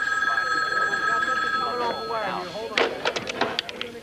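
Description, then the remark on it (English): A telephone rings with a steady, bright electronic trill for a couple of seconds, then stops. A brief muffled voice and a few sharp clattering knocks follow, like a handset being picked up. “Yoo-hoo, your story's on the phone.”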